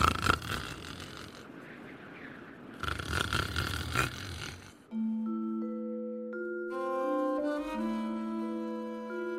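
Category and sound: human body sound, person snoring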